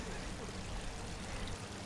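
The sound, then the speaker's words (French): Steady rushing of a stream flowing through a concrete channel near the end of its concreted section, a continuous wash of water with no pauses, moderately loud and even throughout. “À cet endroit-là, on arrive à peu près à la fin de la partie bétonnée du ruisseau, non?”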